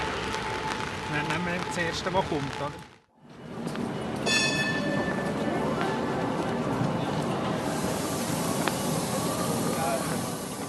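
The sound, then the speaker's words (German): A line 3 tram rumbles along on a rainy day with steady rolling noise, broken by a brief high ringing tone near the start of its run, with faint voices in the background. “Herr Schmid, wir fahren jetzt hier im 3-Tram.”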